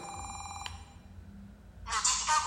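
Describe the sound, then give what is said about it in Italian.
A handheld scanner, switched from vibrating to acoustic feedback, sounds an electronic notification tone: a steady, bright beep lasting about half a second, a short lull, then a louder, buzzier ringing burst near the end. No one speaks. “Ecco, notifica acustica. Ora sentite che lo scanner, invece di essere vibrante, suona.”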